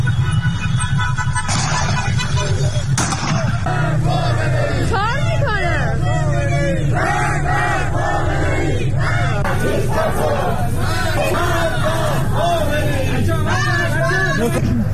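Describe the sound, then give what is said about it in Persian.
A night protest crowd in Iran shouts and chants slogans together in loud, rhythmic bursts, voices rising and overlapping continuously over a steady low rumble of noise. “در اینجا به صداهای توجه فرمایید که از شهرهای مختلف ایران ارسال شده.”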